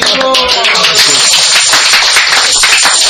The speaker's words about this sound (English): And you all clap.